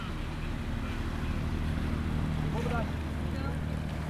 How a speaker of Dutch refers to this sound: De Rijkswaterstaat gerustgesteld. De motor loopt weer.